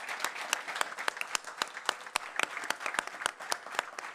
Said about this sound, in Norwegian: Applaus.